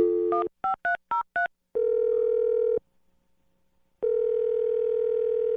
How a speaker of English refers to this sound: dial her phone number right now.